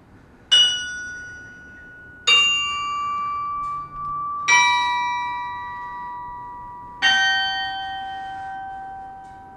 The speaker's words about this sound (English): There is another way that other people can see the bells themselves and the instrument, yes?